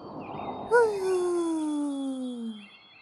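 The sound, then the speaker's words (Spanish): A single drawn-out vocal howl, a voice imitating wind as a long moaning tone that slowly slides downward in pitch over about two seconds, steady, with no other talking. “¿Y si trato de hacer los sonidos que hacen los demás? Como el viento.”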